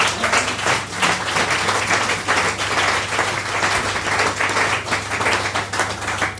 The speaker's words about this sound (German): Das ist doch mal ein Applaus wert, Leute, oder?